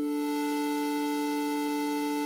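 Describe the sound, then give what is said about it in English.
A steady synthesized tone sounds two pitches together a perfect fifth apart, a well-tuned good fifth built from sine waves with overtones added, the faint overtones layered above. The smooth chord holds unchanged for a couple of seconds at moderate volume, with no voices. “But so now, here is our good fifth with some overtones in it.”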